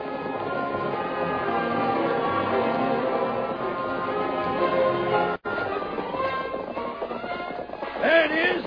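Several horses gallop hard, their hooves pounding in a dense, steady rumble that continues almost without pause, cut only by a brief break near the middle.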